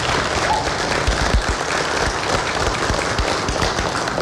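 A crowd seated in church pews applauds the teachers of their school, many hands clapping in a dense, continuous wash of sound that holds at a fairly loud level throughout.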